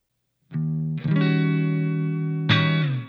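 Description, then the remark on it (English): Clean electric guitar plays three strummed chords, each ringing out and sustaining into the next, with a touch of reverb. Fairly loud, with no voices. “As you can see, my clean tone is fairly straightforward, with a little bit of reverb.”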